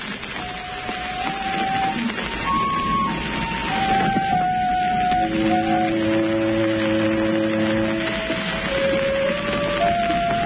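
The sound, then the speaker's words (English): A loud alarm bell rings steadily for several seconds, its harsh metallic tone wavering and shifting in pitch, with no voices over it. “The bell suddenly sounds.”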